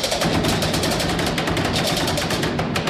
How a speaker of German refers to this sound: Ja, statt Glockenläuten gibt's hier in Bernau an den Kartagen das sogenannte Rätschen aufs Ohr. Das klingt lustig, ist aber bestimmt ganz schön anstrengend für die Rätscher, die Jugendlichen, die hier mit mir im Kirchturm von St. Erasmus stehen.